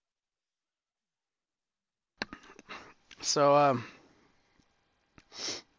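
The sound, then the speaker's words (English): A few muffled, stifled coughs, followed by a brief spoken word and then a short, breathy sniff after a pause. “I'm gonna have to cough here for a second.”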